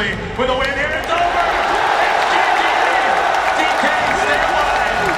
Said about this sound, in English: Watching someone else play a video game might sound boring, but yesterday, the crowd at the International was going wild.